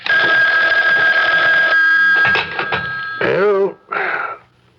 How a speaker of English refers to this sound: aren't you going to answer the phone?